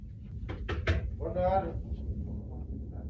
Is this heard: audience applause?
no